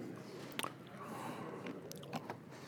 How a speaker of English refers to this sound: I'm finished chewing my Altoid. I stole your Altoid